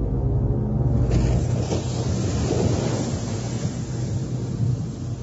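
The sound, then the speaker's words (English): A Venusian machine speeds across the surface of a purple lake, taking less than 20 Earth minutes to cross it. Its low engine drone holds steady beneath loud, continuous rushing spray and buffeting wind, with no voices throughout. “It took the Venusian machine less than 20 Earth minutes to speed over the surface.”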